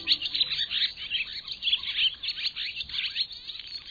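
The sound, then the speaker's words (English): A barn swallow chatters in a rapid, continuous stream of twittering chirps and warbles, steady in loudness, with no other voices present. “If so, the chattering of this swallow probably is not music to your ears.”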